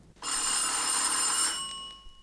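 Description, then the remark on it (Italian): An electric doorbell trills with a loud, rapid metallic buzz-ring for just over a second, then cuts off, leaving a few high ringing tones that fade out. “Il trillo del campanello della porta.”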